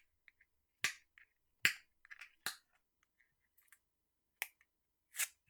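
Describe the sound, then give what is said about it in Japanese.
Crinkly plastic clicks and scratches as someone clumsily fumbles at peeling a hard-to-remove round sealing tape, coming in six or so sharp, irregular bursts with small ticks between and no talking. “こういうさ、なんか丸いテープみたいなやつ、マジで剥がしづらくない？どうやってやろう、不器用なんだよな。”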